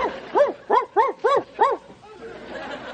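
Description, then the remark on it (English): A person imitates a dog with five quick, loud "woof" barks in a steady rhythm, then the voice trails off into quieter background noise. “I am a doggy.”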